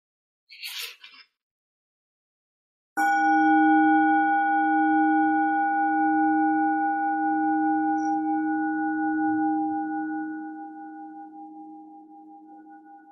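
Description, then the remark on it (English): A bell is struck once and rings on with a loud, steady tone and several clear overtones, slowly fading over about ten seconds. A brief soft rustle comes just before the strike. “The sound of the bell, still reverberating, asking you to wake into this life and inviting you deeper into what waits.”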